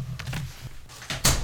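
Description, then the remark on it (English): A door is handled when someone is at the door: a few soft rattling, shuffling noises, then a sharper, louder thud as it shuts, over a low steady hum. “Someone's at the door.”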